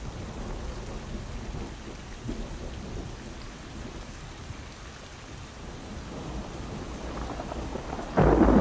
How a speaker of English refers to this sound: Rain falls in water. Rain batters green leaves on branches.